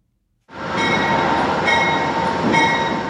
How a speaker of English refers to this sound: An Amtrak train pulls into the Niagara Falls, New York station.